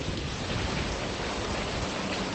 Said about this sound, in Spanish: Pues este sonido es la banda sonora de las últimas horas, la lluvia que tanta falta nos hace.